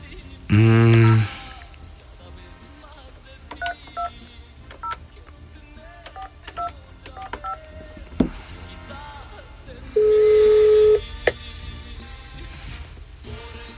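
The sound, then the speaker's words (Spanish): Telephone DTMF dialing tones as someone dials a phone call: a loud, buzzy electronic tone sounds for about a second near the start, then a steadier, clear tone follows about nine seconds later, with faint background sounds between. “Ok, a ver, va, vamos a marcarle, a ver qué show sale.”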